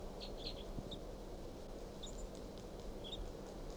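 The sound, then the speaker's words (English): Very soft, high-pitched chirps from a wild male bird sitting low in a pine tree and looking down at decoys come in small scattered clusters of short notes, barely rising above a steady low rumble of background noise. “Start recording 8:03, and this wild bird, male, is low in this pine, looking down at the decoys. And this is him chirping very softly.”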